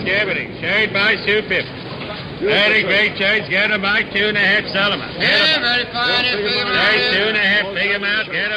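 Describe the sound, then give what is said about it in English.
A busy city street, Orchard Street on the Lower East Side of New York, with a dense crowd of overlapping voices chattering, steady and fairly loud, with a low background rumble underneath throughout. “Orchard Street on the Lower East Side.”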